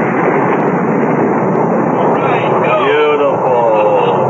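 Rocket engines thunder at liftoff, all engines firing as a countdown reaches zero, a loud, continuous rumbling roar that stays dense and steady throughout, with thin whistling tones sweeping through the noise toward the end.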